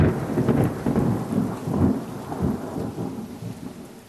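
Steady rain falls heavily and continuously, with low rumbling thunder rolling underneath throughout. No voices are present.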